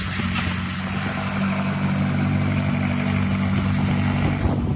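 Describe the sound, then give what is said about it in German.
A McLaren sports car engine rumbles loudly and steadily, a deep continuous drone with a broad roar on top as the car pulls out, with no voices. “Der die Karre da rausfährt. Ist doch egal. McLaren.”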